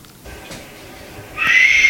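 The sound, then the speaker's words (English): After a second of near silence, a mountain lion or bobcat lets out a loud, high-pitched chirping cry that holds steady with a shrill, strained tone until the end. “these guys, they heard either a mountain lion or a bobcat, and this damn thing was chirping now.”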